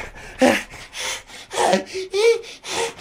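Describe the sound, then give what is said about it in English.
Loud, exaggerated heavy breathing, a rapid series of rasping inhales and exhales with a few voiced, groaning breaths mixed in, roughly twice per second. “Would you quit the exaggerated breathing, please?”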